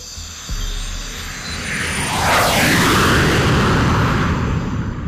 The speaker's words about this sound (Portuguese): Um jato futurista corta o silêncio do entardecer. Suas turbinas sussurrando suavemente enquanto desliza pelo céu acima da ilha do Conselho.